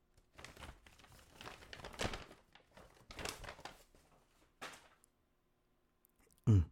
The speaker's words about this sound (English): No, not the paper bag. What's inside the paper bag? Open it.